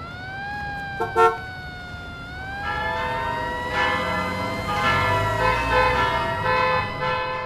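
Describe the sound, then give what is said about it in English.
Bells in New York City, heard from the roof of a broadcasting building, ring out in a steady, overlapping clamor to warn people to evacuate the city, with a sustained tonal drone beneath, growing fuller and busier partway through, continuing loudly without any voices. “The bells you hear are ringing to warn the people to evacuate the city as the Martians approach.”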